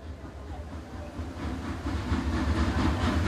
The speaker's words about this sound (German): Schnaubend wartete die alte Lokomotive mit ihren grünen Wagen bereits am Bahnsteig und gab mit einem ungeduldigen Pfeifen zu verstehen, dass sich der Zug jeden Moment in Bewegung setzen würde.